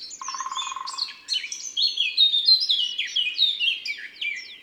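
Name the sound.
eurasian blackcap song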